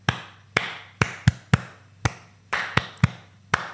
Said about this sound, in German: Ich sehe dich gerade nur in der Hand klatschen.